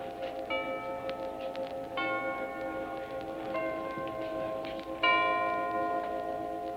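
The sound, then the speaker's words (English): Chimes ring out in a slow, steady sequence, four clear strikes about a second and a half apart, each tone lingering and overlapping the next over a constant background hum, as the national community Christmas tree is lit in Washington, D.C., below the south portico of the White House. “Thus the chimes rang out and the tree springs into light further down from the south portico of the White House.”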